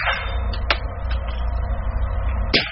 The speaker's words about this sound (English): Now here's the .45 with the suppressor on it.